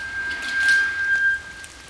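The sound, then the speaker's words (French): Steady rain falls at the start of the rainy season with a soft, continuous hiss, swelling slightly midway, while a thin, high whistling tone holds steady for most of the moment before fading. No one speaks. “La saison de pluie commence.”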